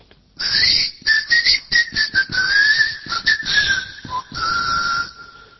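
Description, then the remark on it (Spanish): A person whistles a series of short, bright, wavering notes, the tone sliding up and down in a quick rhythmic pattern, calling a keychain that answers when whistled at, to locate it. No talking. “Porque he visto unos, yo quería regalarle uno, uh-huh. ¿No? Que usted les chifla.”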